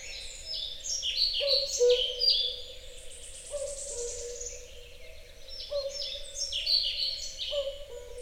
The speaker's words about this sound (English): These are European pied flycatchers and cuckoos.